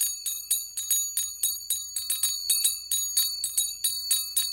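A song intro of bright, ringing bell-like tones struck alone in a repeating Morse code rhythm spelling the Toronto Airport's call letters, short groups of quick strikes separated by brief pauses, each note decaying with a shimmering high tone.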